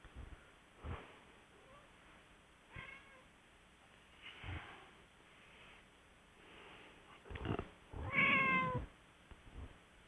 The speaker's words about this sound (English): I hear a kitty cat.